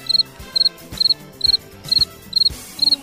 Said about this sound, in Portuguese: O grilinho entrando aqui. Cri, cri, cri, cri.